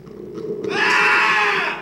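A single loud human scream bursts in after a brief murmur, holding at a high, strained pitch for over a second, piercing.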